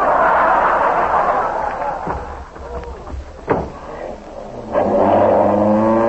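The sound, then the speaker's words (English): An ambulance engine roars as the vehicle drives to a patient's house on an emergency call, dips briefly with a sharp knock, then revs up again into a steady, rising drone. “Stop the ambulance.”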